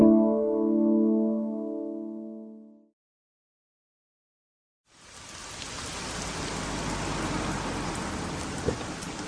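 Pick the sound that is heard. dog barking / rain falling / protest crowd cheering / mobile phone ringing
rain falling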